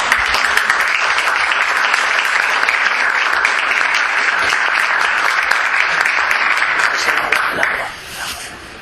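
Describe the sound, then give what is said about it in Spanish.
Sustained audience applause at the close of a talk, a dense steady wash of many hands clapping at even loudness for about seven seconds before tapering off quickly near the end. “Un aplauso.”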